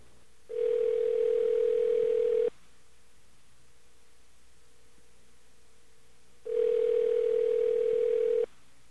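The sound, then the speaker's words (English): A phone line's ringing tone on a call placed through Net2Phone Direct sounds twice, each a steady two-second purr separated by a long quiet pause, clear and fairly loud with faint line hiss between and no talking. “I can make that out. It's a ring.”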